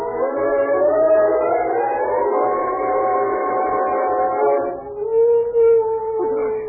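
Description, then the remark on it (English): A dog named Holly howls in a long, drawn-out wail that rises and holds steady, then breaks off into a second, flatter howl, heard alone over a faint low hum. “Listen. What? The dog, Holly.”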